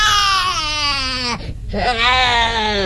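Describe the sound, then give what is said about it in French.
A baby wails loudly in two long sustained cries, broken by a brief gasping breath in the middle, with no talking. “tiens, on a justement un bébé là. Mignon, hein.”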